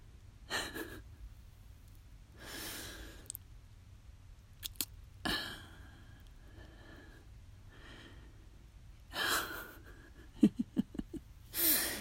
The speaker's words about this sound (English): Yeah, I guess I am breathing a bit more heavily. That is typically what people do when when they're aroused.